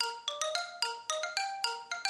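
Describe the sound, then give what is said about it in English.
A xylophone plays a lively little tune, about nine bright struck notes in quick, even succession, each ringing briefly before the next. Clear, with no voices. “I couldn't wait to get home and get at the xylophone. Say, wait till you hear this tune.”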